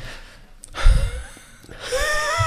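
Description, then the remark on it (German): A deliberate, loud exhale: a long breathy rush of air, easing into a soft voiced tone at the end, with no talking. “Ausatmen.”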